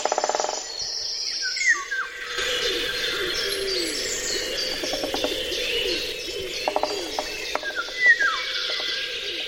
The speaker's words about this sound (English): Sometimes it is so extraordinary. For instance, the soundscape of the cuckoo, the golden orioles, and the great spotted woodpecker.